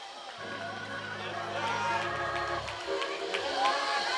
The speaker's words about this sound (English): Come on, give the Lord a hand clap of praise in this place.